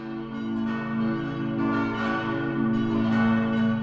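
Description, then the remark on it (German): Church bells of St. Michael in Regen ring together in a dense, continuous peal, their overlapping tones sustained and swelling throughout, fairly loud and resonant with no voices present. “Die Hauptrolle spielen schon die Glocken. Sie läuten davor, darunter und danach.”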